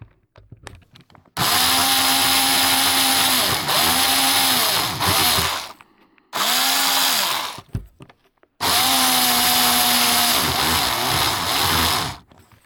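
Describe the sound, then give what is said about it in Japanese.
A power drill whines loudly in three long bursts, its motor pitch dipping under load as it bites into material, with short pauses and clicks between runs; drilling resumes after the type of drill bit is changed. “では、ドリルの種類を変えて、また再開します。”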